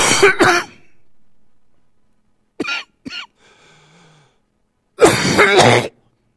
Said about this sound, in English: I'm going to cough.